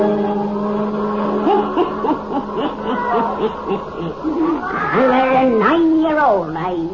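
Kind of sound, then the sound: animal, black cat meowing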